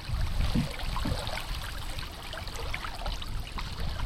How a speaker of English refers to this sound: continues to paddle his canoe upstream.